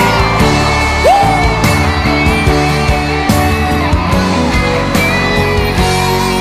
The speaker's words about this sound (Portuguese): Equipe Pride, Nova Ubiratã, Mato Grosso. Quem tá apaixonado, bota a mão pra cima, solta o grito maior!